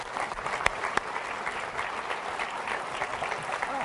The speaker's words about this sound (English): Big round of applause for all these people that helped you.